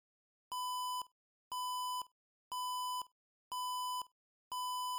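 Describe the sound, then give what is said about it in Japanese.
A loud, blaring electronic alarm beeps five times in a steady rhythm, each harsh half-second tone followed by a brief silence, clear with no other sounds, ringing through a corridor after a surveillance sensor is triggered. “けたたましい警報音が廊下に響き渡った。”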